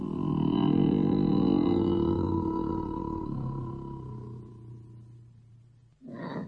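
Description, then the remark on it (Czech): A bear lets out a deep, rumbling roar that holds for about six seconds and slowly fades, then ends with a short, harsh growl. Loud, with no talking. “Jenom znalost medvědí povahy.”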